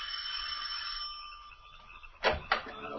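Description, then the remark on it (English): Reporter Clark Kent rings the doorbell at the heavy oak door of Sidney's house in the wooded countryside, up three stone stairs: a bright, sustained metallic tone that slowly fades, followed by two short, sharp thuds. No one speaks. “Then, ascending the 3 stone stairs to the heavy oak door, he rings the bell.”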